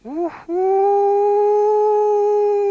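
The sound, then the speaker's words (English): A human voice imitates a wolf howl: a short rising yelp, a brief breathy break, then one long, loud, steady sustained howl. “So this young man was wishing to become a wolf, so he went out from the cabin as became a wolf.”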